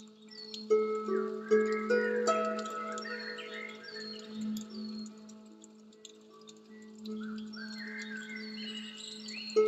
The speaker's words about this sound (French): Ces oiseaux, comme ils sont joyeux, ils sont là, pleinement à leur place, dans leur royaume, comme toi tu es pleinement à ta place, dans ton royaume.